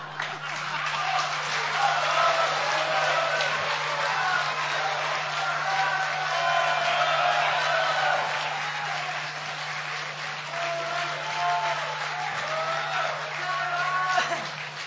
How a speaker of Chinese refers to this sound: 感谢大家的掌声鼓励啊！